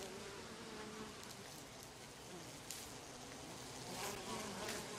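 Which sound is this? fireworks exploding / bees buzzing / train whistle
bees buzzing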